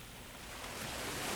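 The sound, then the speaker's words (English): Gentle waves wash in a soft, steady hiss of moving water that swells slightly louder toward the end, with no voices present. “Listen to the gentle sounds of water”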